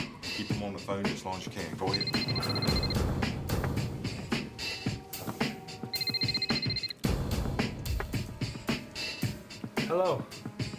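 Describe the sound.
A telephone rings in the afternoon in two separate bursts of bright, trilling bell tones, clearly audible over a dense, busy background with what sounds like voices and activity.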